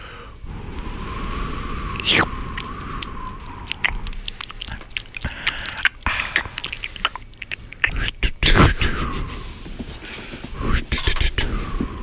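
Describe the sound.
Someone makes wet clicking, smacking and snorting mouth noises in an irregular rhythm, imitating a horse, with a few sharper pops and a breathy wheeze midway.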